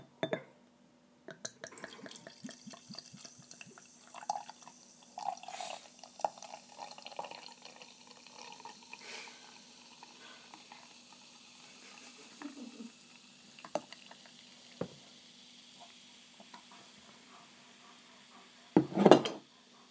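Beer pours steadily from a bottle into a glass, a continuous fizzing gurgle with occasional faint clinks, ending in a sharp glassy knock. No one speaks.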